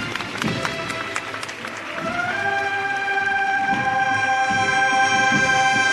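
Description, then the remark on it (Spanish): A crowd claps in a scattered burst near the start as the procession float of the misterio of Pino Montano, with the Señor de Nazaret, emerges into the street, then sustained brass-like band tones swell in and hold steady over a busy, murmuring background. “Palmas y emoción entre las señoras que están al lado del vallado.”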